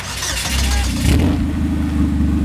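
A race car engine fires up at a racetrack pit after a routine safety check and revs hard, a loud low rumble with a rising, throaty roar that settles into a steady, pulsing growl.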